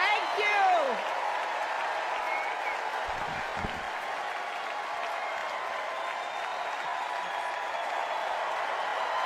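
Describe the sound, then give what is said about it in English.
The crowd at the Democratic National Convention at the United Center in Chicago applauds and cheers for Hillary Clinton at the podium in a steady, dense wash of clapping, with rising whoops and shouts at the start and a few low thumps midway, sustained at an even level throughout. “Warm ovation for Hillary Clinton in the bowl.”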